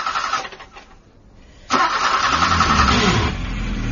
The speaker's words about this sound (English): Maud picked me up at the local station, but was having some trouble getting the car started.